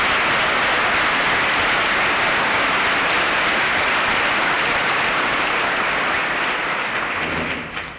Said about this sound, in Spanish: Pues enhorabuena a todos y les pediría por favor un aplauso conjunto para este colectivo que se incorpora hoy al colegio. Muchas gracias.